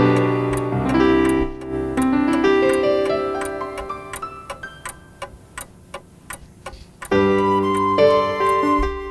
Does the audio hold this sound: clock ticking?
yes